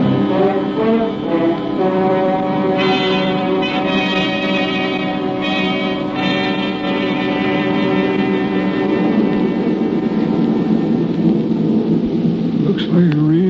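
A loud, continuous thunderstorm sound effect opens Act Two of the radio drama Rain Tonight. Deep rolling rumbles and a steady wash of rain blend with a sustained droning tone, lasting throughout without any speech.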